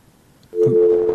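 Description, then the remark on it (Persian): A steady electronic phone line tone after a caller's line drops on a radio call-in show about coronavirus starts abruptly after a brief quiet moment and holds at an even pitch, fairly loud and clear, with no voices. “تماسشان قطع شد متاسفانه.”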